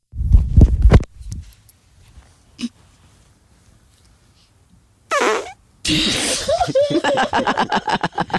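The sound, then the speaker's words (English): A short, perky fart pops out loud for about a second, then quiet follows before bursts of laughter and lively vocal sounds fill the last few seconds. “Okay, let's hear the next fart.”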